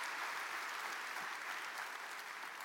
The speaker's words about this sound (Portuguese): Quem aqui ama fazer parte de uma família? Amém? Então dê um grande aplauso ao Senhor Jesus, porque você faz parte de uma família abençoada.